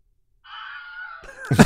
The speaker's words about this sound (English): Nice Wilhelm scream. Fantastic. Nice.